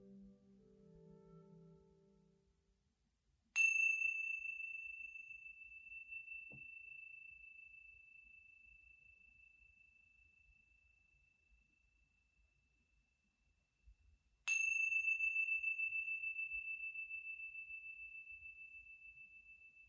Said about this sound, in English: Wiggling your fingers and wiggling your toes when you hear the sounds of the chime coming back into this space.